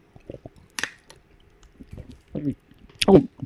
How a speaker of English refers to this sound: Well, I also got to sip on some of this H2O. Hold on a second here.